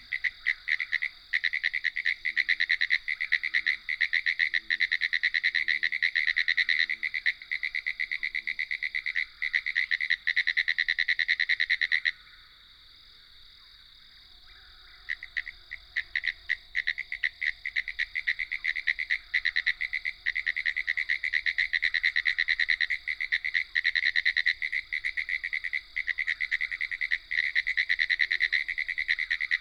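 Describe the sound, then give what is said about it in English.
A dense chorus of pine woods tree frogs in a low boggy area carpeted with sphagnum moss, after an afternoon thunderstorm, fills the air with continuous, buzzy rattling calls, many overlapping at once, briefly thinning partway through before swelling back to full intensity. “These are the vibrant rattling calls of pine woods tree frogs, no doubt invigorated by the afternoon thunderstorm.”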